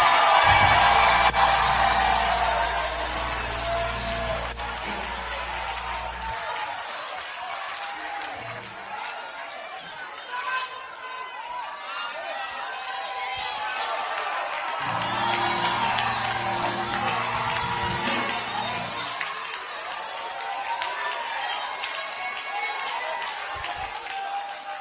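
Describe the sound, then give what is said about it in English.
A large audience claps and shouts hallelujah in loud, sustained jubilation for about twenty-five seconds, many voices whooping over one another while low instrumental notes swell underneath at times. “Clap your hands and scream hallelujah.”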